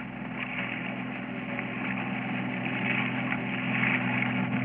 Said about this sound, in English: It's a boat.